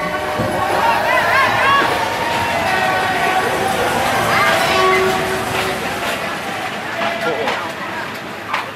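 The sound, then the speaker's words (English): A packed train bound for Ayutthaya rolls out of a station with a steady rail rumble while a dense mass of red-shirt rally supporters cheers and shouts, loud and continuous throughout. “And in a sea of cheering red, we trundle out of the station.”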